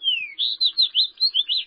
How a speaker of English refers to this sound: When you step outside on a particularly sunny day this winter, even visitors from the far north, like this fox sparrow, may be warming up for the coming spring.